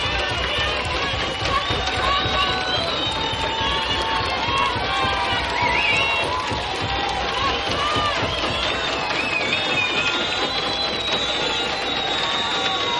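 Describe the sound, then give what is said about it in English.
A dense, loud crowd stomps feet, claps hands and pounds glasses in a steady pounding rhythm, calling for an encore, with many voices shouting and cheering together throughout without a break. “Of pounding of feet, hands, glasses, and one person holding a lighted match in the middle of the crowd.”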